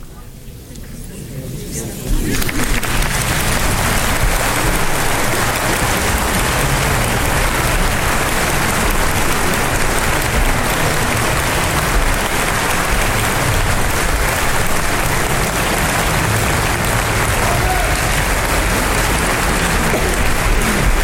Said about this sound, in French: C'est moi qui ai mis ces derniers grands applaudissements. Quelle ovation. La foule de mon cœur.